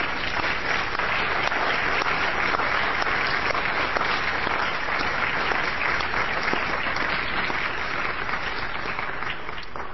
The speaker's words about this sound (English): So I would suggest we give Legislative Council a round of applause.